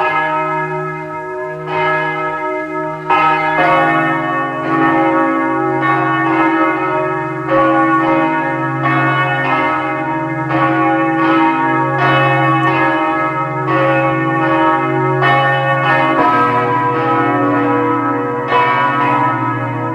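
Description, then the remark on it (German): The bells of the parish church of Lackenbach in Burgenland ring out at 12 o'clock noon in a full, continuous peal, several bells striking in overlapping succession with long humming resonance. They sound loud, with no talking. “Es ist 12 Uhr. Sie hören die Glocken der Pfarrkirche von Lackenbach im Burgenland.”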